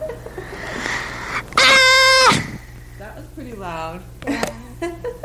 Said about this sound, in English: I think the red means it really loud. If I scream as hard as I could. How about if you scream into it?